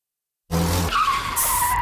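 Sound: car skidding and crashing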